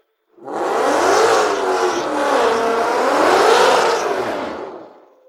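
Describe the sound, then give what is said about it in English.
A drag race car with an untuned 200-shot nitrous setup does a short, cautious burnout, its engine roaring loud for a few seconds with the pitch rising, dipping and climbing again before cutting off. “Not much of a burnout for low.”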